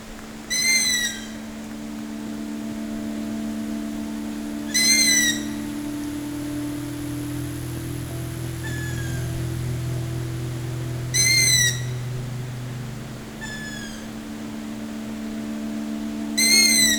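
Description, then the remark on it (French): Night birds in a forest call out in short, sharp bursts every few seconds, with fainter answering calls, all over a steady low background drone and no voices. “Les oiseaux de nuit.”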